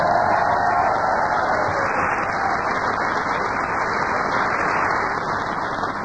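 A crowd applauds and cheers Paul Merton steadily for about six seconds, a dense, loud wash of clapping with whoops mixed in, holding even in level throughout.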